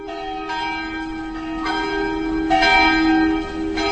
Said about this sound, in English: The bells ring out over the winding cobbled streets of Těšín, one of Europe's geographical oddities.